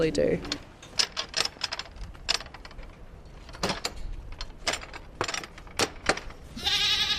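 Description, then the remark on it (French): Goats bleat, one wavering cry at the start and another near the end, with a run of sharp clicking and clattering noises in between, at a place that keeps goats and pigs. “Alors là, ici, il y a des chèvres et des porcs.”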